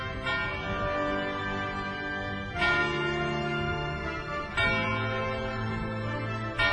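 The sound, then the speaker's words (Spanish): A church bell rings the hour with three resonant strikes about two seconds apart, each clang blooming into a rich, humming sustain that overlaps the next, loud, with no voices. “La campana nos marca el comienzo de una nueva hora.”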